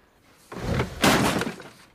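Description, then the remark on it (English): Stage props from a play are being smashed out in a garden and furniture overturned, in two loud bursts of crashing and breaking, with clattering debris and thuds lasting about a second. No one speaks. “Out in the garden, Peter is smashing all the props from the play.”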